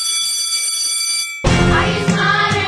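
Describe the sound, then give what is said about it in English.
A steady, high-pitched bell rings continuously for over a second before a sudden loud, dense burst of sound cuts in and carries to the end. “Ring the bell.”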